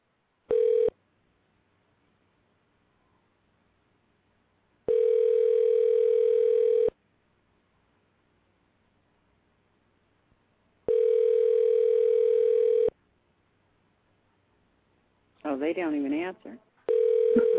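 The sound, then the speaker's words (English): A telephone call to the Capitol Office of Senator Charlie Justice rings out: a short tone, then three steady two-second ringback buzzes separated by long silences. A voicemail greeting briefly answers at the end before a final tone. “See if he fucking answers the phone. Somebody going to answer the goddamn phone.”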